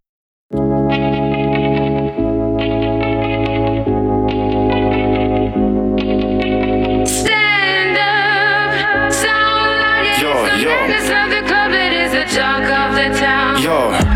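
A hip-hop track opens with loud, sustained synth chords shifting every couple of seconds, then turns busier and denser halfway through, with warbling, effects-laden melodic lines over a steady beat.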